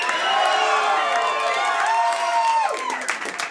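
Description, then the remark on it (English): A crowd cheers and whoops with sustained, overlapping voices, then bursts of clapping break through as the shouting fades, loud and steady for a few seconds. “You've done drugs in here by applause, right?”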